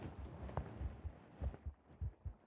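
A muffled heartbeat thumps steadily in low, soft double pulses against a faint hiss, with no voices present.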